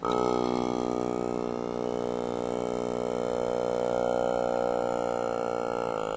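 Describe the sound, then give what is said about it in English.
A motorized mouth made of clear plastic bottles, the artwork Tuva, drones in imitation of Tuvan throat singing: one steady, buzzy low tone rich in overtones, held loudly for about six seconds before shifting slightly at the end. “Tuva is a motorized mouth made of clear plastic bottles that mimics the sounds made by Tuvan throat singers.”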